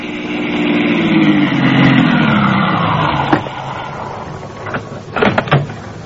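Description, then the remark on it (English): A car engine winds down as the vehicle slows to a stop on Route 27A, followed by a few sharp clicks and thumps of a car door being opened. No voices. “I stopped my car on Route 27A at about the point where Galen's men were wrecked.”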